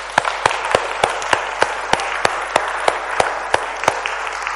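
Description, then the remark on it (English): A church audience applauds together to thank God for the people who have served. It is a dense wash of many hands clapping, and a steady rhythmic beat emerges as strong unison claps fall about every third of a second. “So as we clap now, we're clapping and thanking God for the fact that he's moved hearts and that people have served him.”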